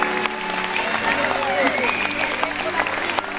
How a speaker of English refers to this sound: Come on, let's clap for him, parents. Come on, let's clap for him.